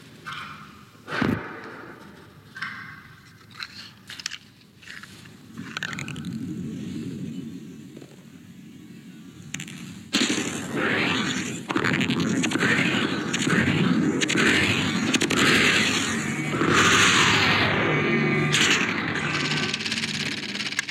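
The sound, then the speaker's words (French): Crackling, scraping sounds of a lit cigarette burning and smoke being drawn in, captured by a very close micro-recorder and heavily processed. Sputtering bursts and a thin high whine sit over a dense rasping texture that grows louder and steadier in the second half. “Un micro-enregistreur très très proche capte les sons créés par la consommation de la cigarette et par l'aspiration de la fumée.”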